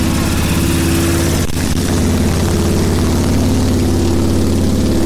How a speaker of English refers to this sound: And where we're standing now, we have more motorcycles coming through.